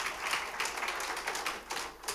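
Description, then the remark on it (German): A short burst of scattered audience clapping, fairly soft, with dense overlapping claps forming a steady hiss of applause and a few sharper individual claps standing out. No voices. “ich weiß nicht, ob man klatschen soll zu dem, aber eben, Psalm 23 hört sich aber besser an.”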